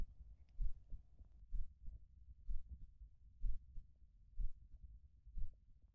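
A slow, steady heartbeat thumps about once a second during a tight hug, six deep muffled beats as if heard through a chest, with a soft low rumble between them and no voices.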